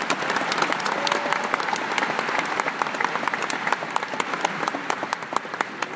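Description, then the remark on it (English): Sustained applause from a large audience for the regents and officials, dense overlapping claps filling the space at steady loudness for several seconds, with no talking over it. “Please join me in a round of applause for our regents and all our ancient officials.”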